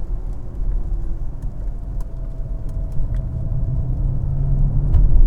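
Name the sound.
car driving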